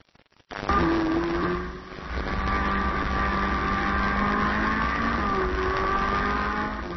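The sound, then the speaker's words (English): A sports car engine roars loudly and steadily, revving hard with rising and falling harmonic whines as a man in Japan speeds along at more than 120 kilometers per hour in a 40 kilometer per hour zone, with no voices. “He posted footage of himself speeding on the internet.”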